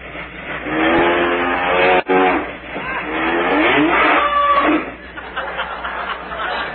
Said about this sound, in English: Oh. Sounds like the milk train, don't it?